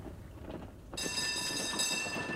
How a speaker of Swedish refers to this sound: Hästar drar fortfarande spårvagnar i Malmö.